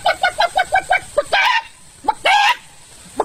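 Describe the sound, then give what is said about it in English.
A woman's voice imitates a chicken, with a quick run of rhythmic clucks followed by two longer, drawn-out squawking calls, fairly loud with no other talk. “I mean, especially when she's doing the chicken.”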